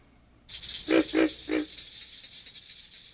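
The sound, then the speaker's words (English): Three short, low grunting calls of a pig frog (Rana grylio, which has internal vocal sacs), from a record, in quick succession over a steady high-pitched buzz of insects that continues after the grunts stop. “Tree frog voices are very different in quality from those of the pig frog, Ranagrillo, which has internal vocal sacs.”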